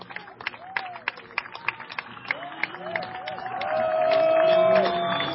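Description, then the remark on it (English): A baseball crowd cheers and claps after Jonathan Alvarez hits a home run to left field, his first of the season, to make it 2-0 Reading, with scattered sharp claps, rising whistles and shouts. The roar swells louder toward the end, and a long sustained whistle rings out above it. “And the crowd letting him hear it here.”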